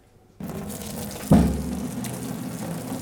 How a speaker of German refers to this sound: Nudeln sind fertig. Ja. Einmal abgießen, oder? Ja. Achtung.